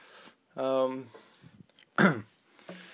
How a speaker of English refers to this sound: Oh, I hate when you always do coughs. I always do coughs when I'm starting to do a talk. You're like, yeah, that's just something I noticed.